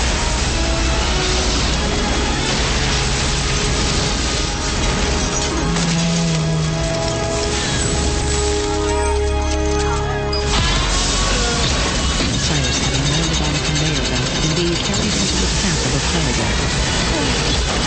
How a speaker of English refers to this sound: as the fire truck smashes into the armored vehicle, he jumps free, and a shower of sparks ignites.